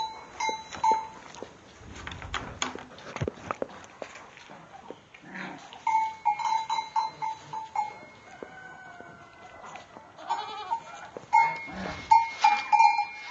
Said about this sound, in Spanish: Entrando a la cuadra a despachar las cabras. Pastoreo de las cabras.